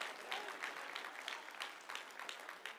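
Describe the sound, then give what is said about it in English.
A crowd applauds in praise of the Lord, a dense wash of many hands clapping at once that holds at an even, moderate level throughout, with no voices breaking through. “Just give the Lord a big hand praise. I got to get my own clap.”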